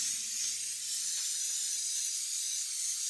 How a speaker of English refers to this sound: It's very important when you're making macaroni and cheese that you spray whatever kind of dish you're using, because it will stick.